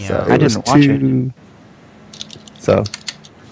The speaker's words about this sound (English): Oops, we hear keyboard now.